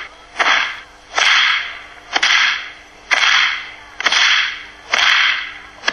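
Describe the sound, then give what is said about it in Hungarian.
A whip cracks back and forth in a steady rhythm, about seven sharp, loud snaps, each preceded by a rushing swish of the lash through the air. No voices. “Csikó pattogtatás, az csak előre.”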